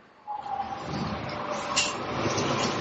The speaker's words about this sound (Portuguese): E aí, galera, de repente aparece um ônibus.